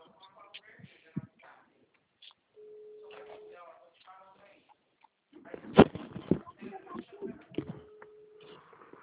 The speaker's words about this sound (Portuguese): Tá chamando aí no seu telefone.